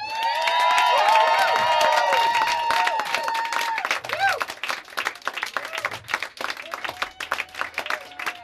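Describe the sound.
An audience bursts into loud applause mixed with whoops and high cheering voices, the dense clapping thinning after a few seconds into scattered claps and shouts.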